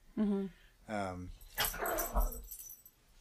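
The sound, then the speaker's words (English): A puppy lets out two high, whimpering yelps, followed by a burst of scrappy, rough barking mixed with scuffling noise. “Puppy attack. Hey, puppy. Enough, Axel.”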